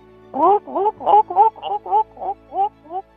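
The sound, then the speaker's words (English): A person vocally imitates gulls with about nine quick, yelping cries in a steady rhythm, each bending up and down in pitch, fairly loud and with no other talking. “taking you up on your request for gull impressions.”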